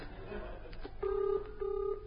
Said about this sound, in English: I can hear the phone ringing in your warehouse.